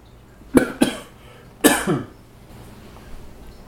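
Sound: coughing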